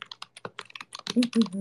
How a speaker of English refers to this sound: Can you hear my keyboard?